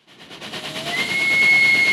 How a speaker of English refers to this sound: Steam trains. 1868, Victoria Station, London.